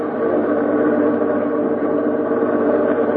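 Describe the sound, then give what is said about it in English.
A bus engine drones steadily throughout on a bus somewhere in Los Angeles carrying Jack Benny, a continuous low, rumbling hum that holds an even loudness with no voices or breaks. “Pick up Jack Benny on a bus somewhere in Los Angeles.”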